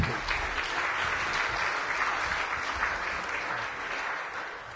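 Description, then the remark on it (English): Steady audience applause for a speaker at a talk fills the whole stretch, a dense wash of many hands clapping at once, sustained at an even loudness without tapering off. “Big applause”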